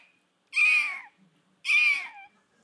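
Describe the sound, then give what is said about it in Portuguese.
A human voice mimics a frantic seagull with two loud, shrill screeching cries, each dropping in pitch at the end, separated by a short pause, with no talking. “De repente, desse caminhão, uma gaivota enlouquecida pousou no teto.”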